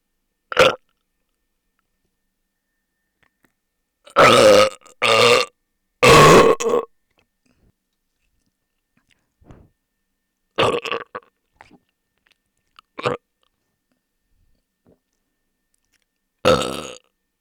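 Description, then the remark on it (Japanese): Several loud burps, some long and guttural, come in separated bursts with silent gaps between them. Shorter belches and small throaty sounds follow, and there is no talking. “私のゲップでいっちゃえ。”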